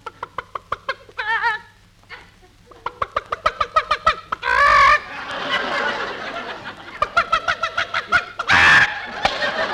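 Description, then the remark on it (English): A flock of chickens being fed corn clucks steadily in rapid, overlapping bursts, with a few louder squawks and cackles breaking through, and no one talking. “We've got to feed the chickens.”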